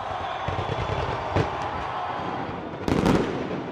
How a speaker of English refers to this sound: Thailand welcomed the new year with a fireworks display in Bangkok under heavy COVID-19 restrictions.